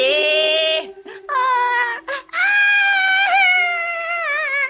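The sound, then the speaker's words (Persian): A storyteller imitates a whimpering, wailing cry in long, wavering high-pitched bursts, broken by a few short sobbing catches before a final drawn-out moan. Loud, with no other sounds. “آره آره، گریه کن گریه کن، یالا یالا.”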